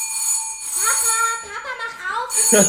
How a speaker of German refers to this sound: Erst einige Zeit darauf klingelt es, wie nur Wumme klingeln kann.